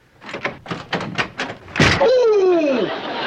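door opening and closing

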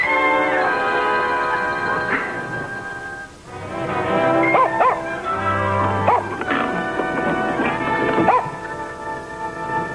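dog barking and whimpering

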